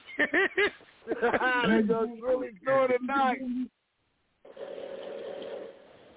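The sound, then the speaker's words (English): Voices talk for a few seconds, then after a short silence a single sustained, low rasping snore drones on steadily at moderate loudness for about two seconds. “So I told you I we instead of True West, we should call it True Snoring.”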